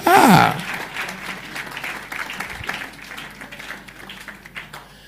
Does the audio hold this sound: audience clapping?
yes